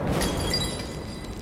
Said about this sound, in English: And you hear the whinnying for only a few moments longer before you hear just the sound of shattering.